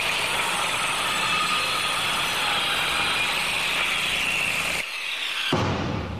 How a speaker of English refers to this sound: Look, man, I've got this jackhammer. Your jackhammer will avail you not.